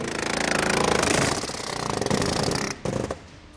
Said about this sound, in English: Half a world away in Camden, South Carolina, American workers are attaching the seal on a refrigerator door. This is the American factory of Haier, a Chinese company that's probably the closest China gets to a known international brand.